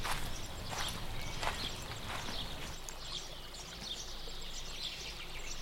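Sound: footsteps walking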